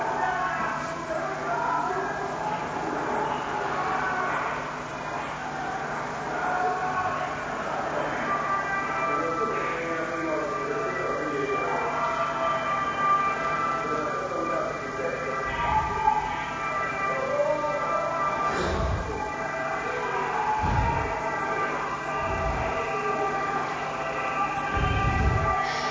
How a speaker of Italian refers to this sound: Questo è un lancio di lacrimogeni nella via parallela via Tolemaide.